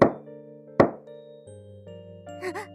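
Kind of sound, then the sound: household object, knocking on a door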